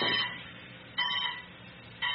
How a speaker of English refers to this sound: Is that my buzzer? I thought I was buzzed out of here looking for the trap door.